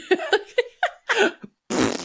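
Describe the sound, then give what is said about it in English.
A person blows a series of wet, sputtering fart noises with the mouth, several short bursts followed by one longer, louder raspberry, alone with no talking. “I was gonna say, I want to make one more fart noise.”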